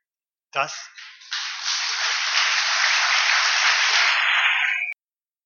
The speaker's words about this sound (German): Das hört sich, wie wir dem Beifall entnehmen können, gut an.